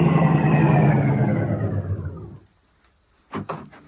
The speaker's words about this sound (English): Car coming.